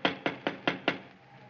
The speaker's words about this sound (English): They don't seem to answer, do they? Try knocking again.